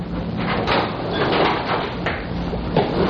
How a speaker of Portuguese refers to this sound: Podem abrir a porta.